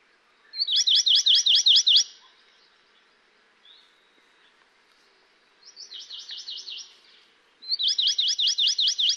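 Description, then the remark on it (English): Hawaii amakihi song: three separate rapid trills of evenly pitched, buzzy notes, each lasting about a second or more, with the middle trill softer. No talking. “Here are four examples of Amakihi song.”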